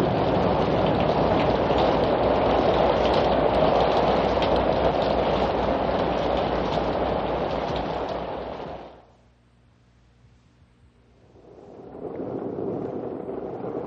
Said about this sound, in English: Listen. Listen. Rain. Rain. Cool water. Cool air.